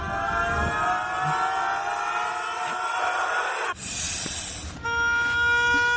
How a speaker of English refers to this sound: You know something that good doesn't just go away gracefully because some guy in Germany reversed the audio. So this is what the duck army reversed sounds like.